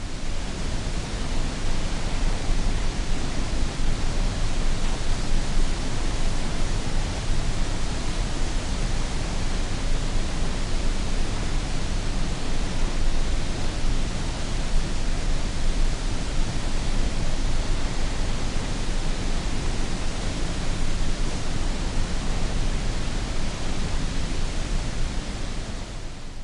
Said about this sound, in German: Bill Fontana nennt das Geräusch der Niagara-Fälle weißes Rauschen aus der Natur.